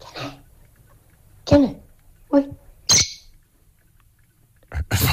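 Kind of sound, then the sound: bird, bird calling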